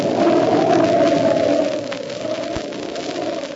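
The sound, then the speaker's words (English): A howling snowstorm wind on a lonely mountain road, with a truck already snowed in, moans in a steady, wavering low-pitched drone, loud at first and easing slightly partway through, with no voices. “The truck is already snowed in and the storm's getting worse.”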